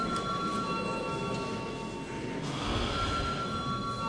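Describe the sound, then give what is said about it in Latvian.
A parliament chamber bell rings continuously for about four seconds before deputies vote on whether to deem a bill urgent, a loud, steady electric ringing with a bright, sustained metallic tone and no speech over it. “Lūdzu zvanu.”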